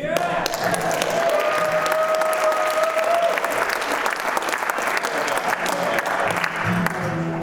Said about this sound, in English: Sorry. They're applauding for you.